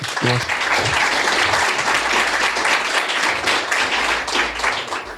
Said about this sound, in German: Alright, dann nochmal vielen, vielen Dank für deine spannenden Insights. Danke dir. Nochmal einen Applaus für Marc.